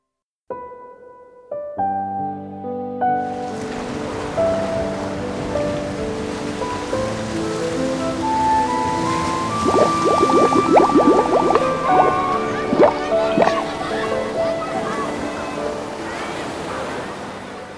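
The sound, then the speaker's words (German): A steady rushing wash of water, like surf or waves, swells in after a few seconds and continues throughout, mixed with melodic music tones playing over it. “Heute geht es um das Thema, habt ihr es schon am Intro erkannt? Wasser, genau.”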